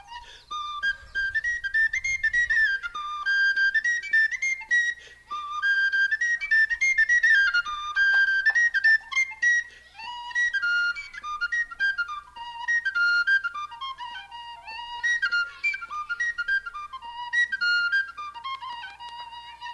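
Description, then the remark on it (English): A tin whistle, or penny whistle, plays a lively Irish fling tune, bright, quick notes trilling and leaping in a steady dance rhythm, clear with no voices. “Here's just a little bit of a tin whistle tune called Pigtown Fling.”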